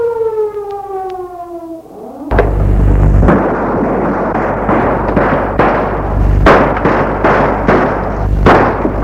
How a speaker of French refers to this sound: Des coups de feu ont retenti.